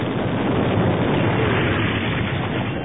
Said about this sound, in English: Suddenly, a titanic explosion shredded both the hover scout and the repulsor lip containing the cores. Shrapnel sprayed throughout the loading dock area. The blast shockwave sent crates flying